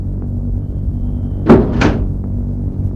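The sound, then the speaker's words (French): Two doors of a big black car shut in quick succession as three boys get in, solid thuds about a third of a second apart, over a steady low engine-like rumble. “Les trois garçons entrent dans la voiture”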